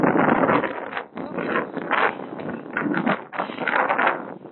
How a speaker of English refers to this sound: it's very windy now